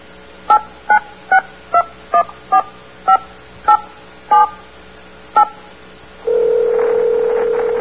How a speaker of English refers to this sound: Anyone can call the President free. Simply pick up the phone and dial the presidential toll-free number.